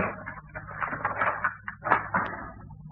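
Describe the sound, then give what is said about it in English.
Continuous metallic rattling and clicking as the lock on a house door is worked open, with small scrapes and jiggles coming in uneven bursts for a few seconds. “To learn the secret behind the locked door.”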